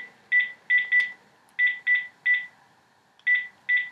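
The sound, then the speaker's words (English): Telephone keypad tones as a mobile number is dialed on a landline phone: eight short, clear beeps in quick irregular clusters with brief pauses between, moderately loud, with no voices. “So I'm going to dial my mobile number.”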